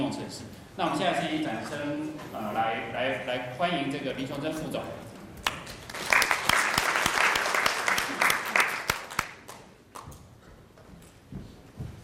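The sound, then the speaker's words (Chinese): A man speaks over a microphone, then an audience breaks into a burst of clapping to welcome a company's senior vice president to the stage at a Windows 10 partner presentation; it swells for several seconds before tapering off into quieter scattered claps. “那我们现在先掌声来欢迎”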